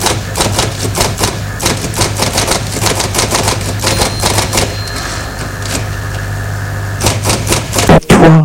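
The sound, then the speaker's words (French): A car engine turns over and settles into a steady low idle, with a rapid, uneven mechanical clatter on top and a louder rumbling burst near the end. No one speaks. “J'ai posé ta main sur mon bras et mis le moteur de la voiture en route.”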